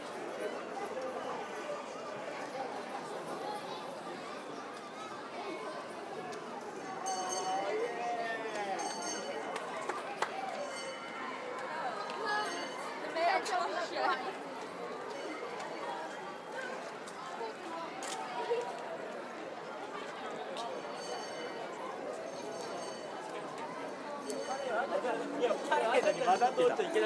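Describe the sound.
A dense, steady babble of many overlapping voices fills the street at the 77th annual carnival parade, with occasional louder shouts and brief clatters rising above the constant crowd murmur, swelling slightly toward the end.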